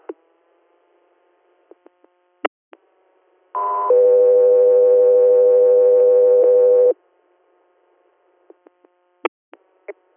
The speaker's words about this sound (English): Stand by for tones.